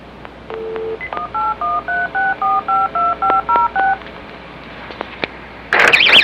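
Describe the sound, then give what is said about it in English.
A brief steady tone, then about a dozen crisp touch-tone keypad beeps as a phone number is dialed in a quick, even rhythm, clear, followed after a pause by a sudden burst of crackling noise. “Okay, the reason that I have to call one more time is to document the date and year.”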